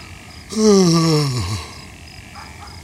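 A single drawn-out yawn from one person lying in bed, starting breathy and gliding down in pitch into a low groaning finish, lasting about a second, with no talking around it.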